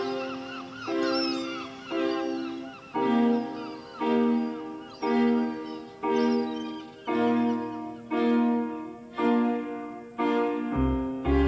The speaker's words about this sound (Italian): Senti i gabbiani? Sei al mare? Senti?